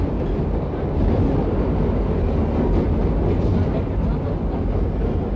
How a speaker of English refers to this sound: Although the sound of the subway can be deafening, when you can listen to it through your radio or high-fidelity phonograph, you can hear a beauty in it. Listen.